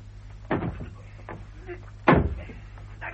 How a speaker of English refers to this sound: Open the door, for God's sake. What's he doing? What's he doing? Break down the door. What? Quickly, quickly.